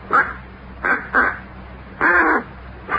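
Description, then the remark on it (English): A duck call is blown in five raspy, quacking bursts by someone who has not yet got the knack of it, spaced unevenly with one longer honk near the middle. The quacks are loud, with no talking around them. “Takes kind of a knack to blowing it.”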